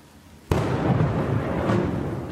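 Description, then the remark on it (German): A sudden, sharp thunderclap from lightning striking Stift Lambach in Austria cracks out of quiet, then rolls on as a loud, steady low rumble with a few fainter crackles, and no one speaks. “Und der Blitz schlägt auch wirklich ins Stift Lambach ein.”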